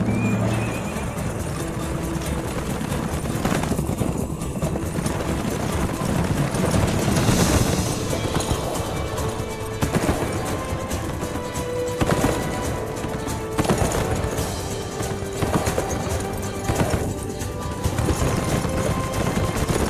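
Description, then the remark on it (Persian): A horse-drawn cart loaded with fabrics rolls along with steady clip-clopping hooves, while a horse neighs and whinnies loudly several times over the continuous rumble of wheels. “آلپا پارچه ها رو تو گاری گذاشتن، بیاین دیگه بریم.”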